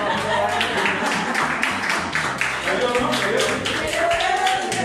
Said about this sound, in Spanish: ¿Qué dice el jurado? ¡Te meto! ¡Sí, un aplauso!